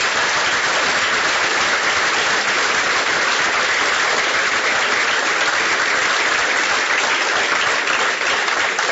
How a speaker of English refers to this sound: Let's give him a Texas round of applause.